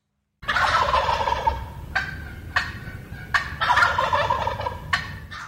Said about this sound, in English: Coming up, wild turkeys, neighborhood nuisance or conservation miracle.